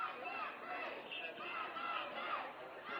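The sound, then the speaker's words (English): A dense crowd of protesters yells and shouts continuously at a line of police officers, some yelling in the officers' faces, a loud, rough wall of overlapping agitated voices with no pauses. “But a few people are getting a little closer to the police officers, yelling in their faces.”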